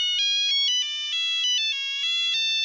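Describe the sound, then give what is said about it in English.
A Nokia 2 mobile phone ringtone plays alone while its owner walks to the office in the cold and dark, a bright electronic melody of quick stepping notes repeating steadily and fairly loudly for a few seconds. “And it was this Nokia 2 and di-di-di-di-di-di-di-di-di-di-di.”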